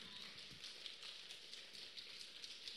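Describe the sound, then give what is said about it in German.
Many people clap softly with their fingers to call the rain, adding one finger at a time from one to four, creating a dense, continuous pattering that imitates rainfall, with small bright taps scattered across the steady hiss. No one speaks. “Ich möchte, dass wir den Regen rufen, indem wir mit unseren Finger anfangen zu klatschen.”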